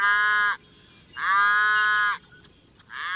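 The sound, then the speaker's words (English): Three loud, drawn-out moos from cattle on the northern prairie, each lasting around half a second to a second, separated by short pauses, with no talking. “The cheerful-voiced chestnut-collared longspur gets along well with the cattle that share its northern prairie breeding range, for the most part.”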